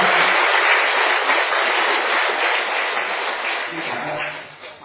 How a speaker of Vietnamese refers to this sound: Xin gặp lại trong một tràng pháo tay.